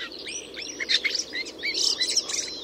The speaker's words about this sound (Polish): Najczęściej słyszanym głosem gąsiorka jest nieco ochrypłe gdakanie. Jest to głos ostrzegawczy, pełniący również funkcję głosu kontaktowego.